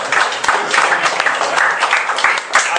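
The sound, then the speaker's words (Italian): Steady audience applause, a dense crackle of many hands clapping at once, fairly loud and sustained for a few seconds without any voices over it, thanking helpers at the opening of a CGIL Camera del Lavoro. “Un applauso con questo.”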